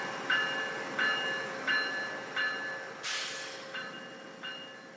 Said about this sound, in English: We get there, and it's a train. I mean, it showed up, a little late, was a train, left again, inexplicable.